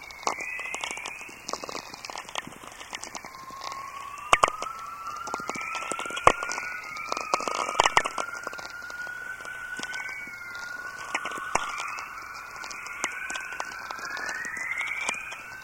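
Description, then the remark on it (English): Radio whistlers from lightning in Earth's magnetosphere: repeated gliding, sweeping tones that slide through a mid-to-high pitch over a steady bed of crackling, popping static, with no voices. “And it's these whistlers that remind me of the underwater sounds of Weddell seals.”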